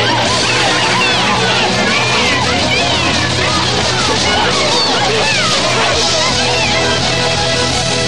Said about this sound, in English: as the boat turns, it smashes into a dock full of people, and they all splash into the water.